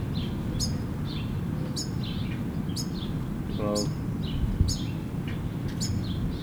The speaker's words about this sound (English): I mean, it has finches.